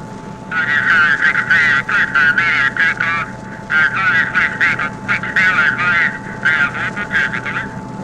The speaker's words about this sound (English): Okay, the engines have been warmed up and we're just about to go. They're revving up the engines.